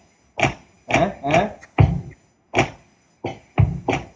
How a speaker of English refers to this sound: It sounds like sticks breaking.